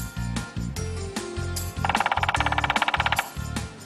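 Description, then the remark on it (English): A woodpecker drums in a quick, even burst of roughly a dozen sharp taps, loud and rattling, set among slower knocking sounds before and after. No one speaks. “That's a woodpecker.”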